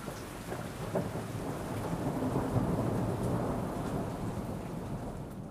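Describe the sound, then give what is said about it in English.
A thunderstorm rumbles steadily, with a dense wash of rain and a deep, rolling thunder swell that builds and lingers near the middle before easing slightly. No voices are present. “And out he goes, outside the castle, into the storm, which has started to come up.”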